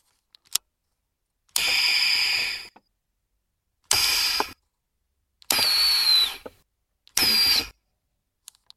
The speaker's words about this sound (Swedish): Ja, det var lite rymdinspirerade ljud det där. Det är så vackert. Vad är det för någonting? Ja, det är ju värme- och ventilationsanläggning i Saab 900. Det stämmer. Den och det där ljudet går aldrig sönder.